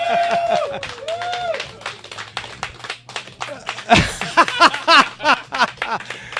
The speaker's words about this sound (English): And ladies and gentlemen, let me know by your applause and by your voice,